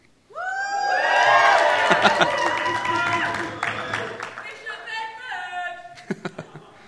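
A church audience at Hope House Church, Barnsley, bursts into loud cheering and whoops over steady clapping to welcome online viewers, the noise swelling quickly and then thinning into scattered claps and a few last shouts.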